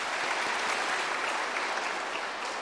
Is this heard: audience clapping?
yes